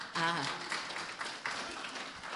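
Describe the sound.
An audience applauds in a steady, dense wash of clapping that holds for a couple of seconds, with a brief voice rising over it at the start.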